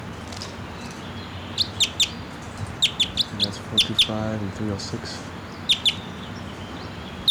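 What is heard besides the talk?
wild bird calling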